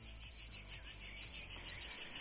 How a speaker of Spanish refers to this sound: Sonido muy de pueblo, ¿eh? Las chicharras a pleno pulmón.